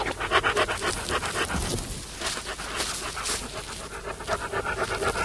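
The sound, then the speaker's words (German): A dog sniffs around and growls softly, with quick, rhythmic bursts of breath that continue steadily for several seconds, with no one speaking. “Er schnüffelte hier und da und wartete dann, bis ihn die Kinder eingeholt hatten. Plötzlich stellte er sich steif und knurrte leise auf.”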